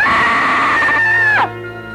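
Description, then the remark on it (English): A loud, sustained high-pitched scream from a radio call-in contest caller holds steady for about a second and a half, then breaks off abruptly into a quieter, thin, tinny trailing tone as the caller yells down a phone line to win prizes. “the best screamer is going to win the Y95 prizes”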